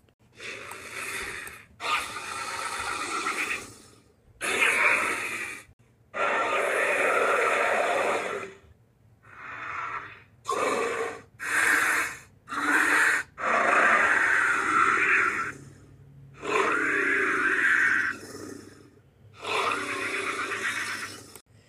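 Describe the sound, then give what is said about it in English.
A Ceratosaurus call from the video game Jurassic World Evolution, a voice made from walrus, tiger and bear sounds with screeches mixed in: about ten harsh, raspy bellows and screeches, each lasting a second or two and separated by brief silences. It is loud and breathy, with no talking. “In Jurassic World Evolution, it shares the same voice, but with a few screeches mixed in.”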